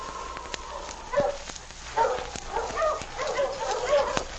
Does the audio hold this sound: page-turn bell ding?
no